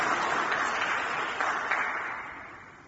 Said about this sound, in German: Und ich denke, jetzt schon mal ganz herzlichen Dank, und das können wir durchaus auch mit Applaus machen, dafür, dass Sie unseren Gottesdienst heute bereichert haben.